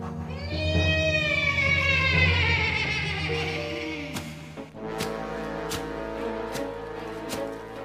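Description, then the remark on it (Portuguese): A chestnut horse neighs loudly for several seconds, a long wavering whinny that slides downward in pitch, followed by a few sharp, evenly spaced thuds over a sustained low tone. “Foi quando Adriano ouviu o alazão, o cavalo fantasma de seu falecido pai.”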